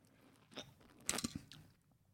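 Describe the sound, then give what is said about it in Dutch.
A quick, quiet sip of strong liquor from a black hip flask: a few crisp, clicky mouth sounds and a short slurp over about a second, with no talking. “Zal ik een slokje nemen? Ja, neem een slokje.”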